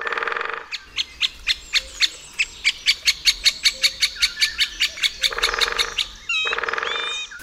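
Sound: woodpecker call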